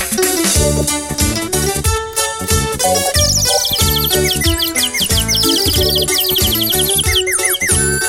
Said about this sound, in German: Oh, ein Vögelchen. Sei doch nicht so aufgeregt. Flieg doch nicht weg.